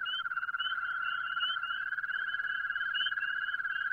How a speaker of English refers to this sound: They're what's known as your common garden toad. You'd never expect something with so many warts could sing like this. And listen to the way they all get together into these toad choruses, all twirling away.